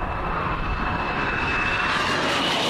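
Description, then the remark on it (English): American fighter jets, in a show of force aimed at North Korea, roar steadily across the whole stretch, a dense rumbling wash with a thin, high whine running through it, the hiss brightening toward the end. No one speaks. “Days after American fighter jets put on this show of force aimed at North Korea”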